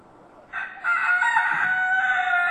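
A rooster crows loudly, a long drawn-out call that starts after a brief quiet moment and holds steady to the end, with no talking. The rooster is among chickens in the garden grounds of a country hall.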